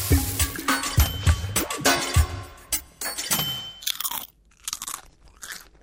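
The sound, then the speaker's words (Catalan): Loud crunching of bagged potato chips: a rapid, irregular run of crisp snaps and crackles, easing into a few quieter, sparser crunches at the end, with no voices. “Aquest soroll, el crec-crec, és el paradigma perfecte del cruixent.”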